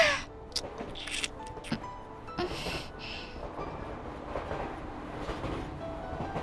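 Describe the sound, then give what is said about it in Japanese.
An electric train rattles along the tracks with a steady rumbling roar, punctuated by clacks and brief high squeals, heard as continuous ambient noise with no voices. “電車がガタゴトと揺れる中、私たちは指を絡め何度もキスをする。”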